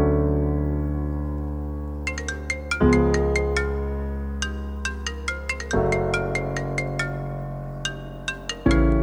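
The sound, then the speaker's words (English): A melodic phone ringtone plays on its own, loud: sustained synth chords change every few seconds beneath a bright, plucked pattern of high notes that repeats in a steady rhythm. “Now my phone's in airplane mode. I didn't get the call.”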